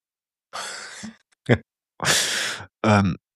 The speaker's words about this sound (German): Husten